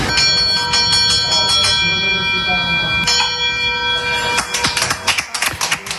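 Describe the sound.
A metal bell is struck repeatedly with a hammer, each clang ringing out with long, sustained overtones. The strikes come close and loud, with voices murmuring in the background.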